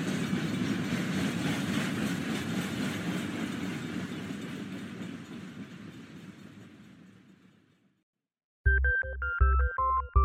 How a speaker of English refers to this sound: "Goodbye, Little Snoring," he heard the train engine say as it pulled out of the station.